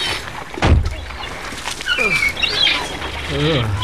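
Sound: seagulls calling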